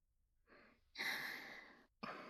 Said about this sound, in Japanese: お、 あくび。まだ眠いの？